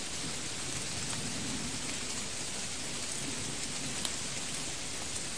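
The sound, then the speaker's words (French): Dense, steady rain pours down with a continuous hiss, drops pattering on a hard surface, the rain growing heavier. The downpour is heavy and unbroken, with no voices. “La pluie s'aggrave.”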